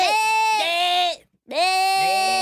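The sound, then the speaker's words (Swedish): A human voice mimics screaming goats with two loud, strained bleating cries, each about a second long, wavering and nasal, separated by a short silence. “Det låter, jag tycker det låter som sådana Screaming Goats.”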